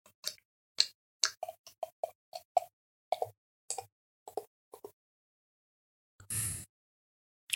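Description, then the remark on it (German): Ratsherrn Küsten-IPA beer is poured into a glass: a quick run of hollow, glugging plops in an uneven, galloping rhythm for about five seconds, followed after a pause by a short, fizzy rush. No one speaks. “Und ja, es ist, ich werde es jetzt mal einschenken.”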